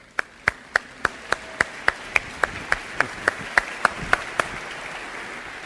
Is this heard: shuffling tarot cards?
no